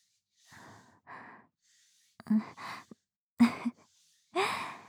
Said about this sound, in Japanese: エッチな息遣いが漏れているわよ。はあ、はあ、はあって。